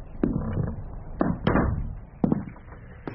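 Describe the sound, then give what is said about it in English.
A door being closed, with a few hollow wooden thuds and clunks spread over a few seconds, one sharper knock near the end, against a low background rumble and no speech. “Close the door.”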